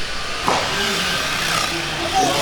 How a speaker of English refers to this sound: Let's listen to the cars as they zip by on the straightaway. I'm sitting here in front of the straightaway. The cars are coming back around. Let's give a listen. Here we come. Here they come.